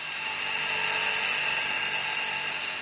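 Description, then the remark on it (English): The Yellow Tempest, a 3.5-ton remote-controlled mine-clearing machine, runs in a minefield with a loud, steady mechanical whine and grinding roar as the chains and cutters on its front spin at 1,300 RPM, clearing vegetation. Unbroken, with no voices. “What it actually does, it's a remote-controlled machine that actually goes into the minefield. And chains and cutters on the front spin at 1,300 RPMs and clear all the vegetation ahead”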